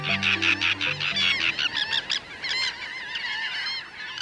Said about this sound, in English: The shallow waters and wide mudflats before us this day are alive with thousands of gulls, terns, and shorebirds. We're at the Bolivar Flats Shorebird Sanctuary on the tip of the Bolivar Peninsula opposite Galveston, Texas.